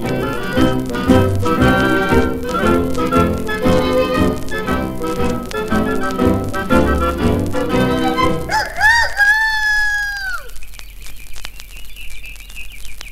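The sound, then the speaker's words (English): Full, busy music plays for several seconds, then breaks off into a short run of bright, swooping bird-like morning chirps and whistles, followed by a thin, steady high tone. “You hear the birds?”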